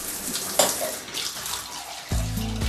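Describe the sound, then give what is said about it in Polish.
Water runs steadily from a tap with a broad hissing splash, fairly loud, then a low resonant tone joins in toward the end as the flow changes. “Zakręcaj kran.”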